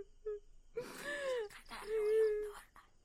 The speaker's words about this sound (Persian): سلام پدر جان. علیکم السلام دخترم. خیریت هست؟ جان پدر تو چی گریه میکنی؟